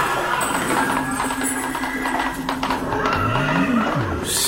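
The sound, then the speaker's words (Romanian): A horse, a mare named Beatrice, neighs loudly near the end, its whinny rising and falling, while steady hoof clip-clops and a constant background noise run through the whole clip. “Eu sunt Beatrice. Care Beatrice? Iapa de la ursitoare, darul tău din tâi.”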